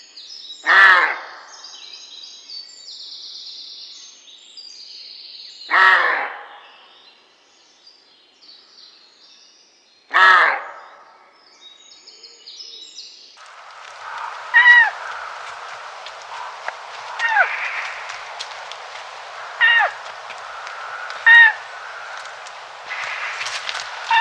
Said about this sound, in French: ces cris sont donc typiques du chevreuil. Ils sont typiques du chevreuil. Donc c'est l'aboiement du mâle, qui peut être à la limite confondu avec un petit chien. C'est une voix assez rauque quand même.